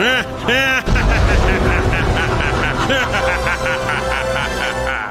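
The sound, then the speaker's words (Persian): A loud, steady engine roar of a spaceship's jet engine powering up kicks in after a brief pause and keeps rumbling, with voices talking over it throughout. “خوبه که سفینه ما جتی جتیه.”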